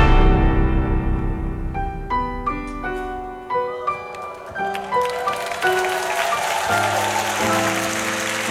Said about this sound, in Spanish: El público aplaude, el telón se levanta para que comience a prepararse en el escenario del trasnoche de la radio.